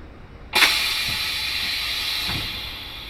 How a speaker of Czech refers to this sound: Teď jsme zavřeli přední dveře. Takže teď jsme tu zavření. A čistě teoreticky už bychom mohli vyrazit. Ventilátor. Teď si otevřeme dveře.